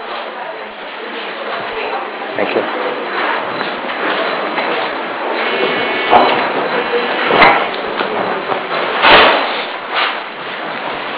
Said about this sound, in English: Could somebody close the door?